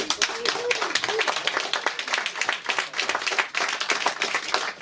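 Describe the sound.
Sustained audience applause, many hands clapping in a dense, steady crackle that stays loud throughout, with a few faint voices and cheers mixed in.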